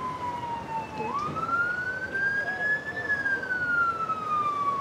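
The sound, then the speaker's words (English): An ambulance siren wails as the ambulance arrives, with a slow, gliding pitch that dips and then rises, loud over a low rumble of road traffic. “The ambulance arrives and they open the back doors.”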